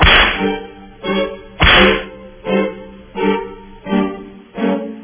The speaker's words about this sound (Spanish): Dale los latigazos, por favor, Durán, con todo ahí.